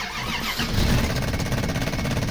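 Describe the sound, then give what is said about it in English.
An old truck engine cranks over and over in a fast, rhythmic low grinding churn but never catches and starts, because of a faulty solenoid. It stays loud and steady for a couple of seconds. No voices. “Damn it, it's the solenoid again. Eric was right, I should have junked this thing.”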